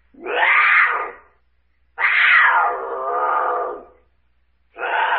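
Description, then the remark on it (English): A mountain lion screams in loud, harsh, drawn-out wails: one cry, a longer wavering one after a pause, then a third just beginning as it cuts off. No one speaks. “Mountain lion?”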